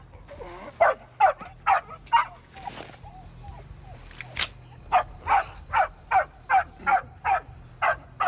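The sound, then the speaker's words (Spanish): A dog barks in a steady, rapid series of sharp barks, pausing briefly partway through before resuming, loud over a low background rumble. “¡Mata al perro ahora!”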